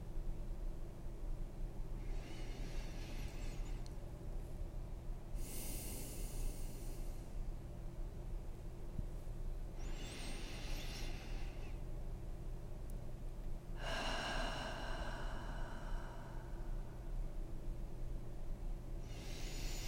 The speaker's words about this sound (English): Take 10 deep, steady breaths in through the nose and out through the mouth. Feel the air filling your lungs and grounding you in your body.